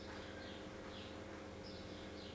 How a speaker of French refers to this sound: On entend les oiseaux.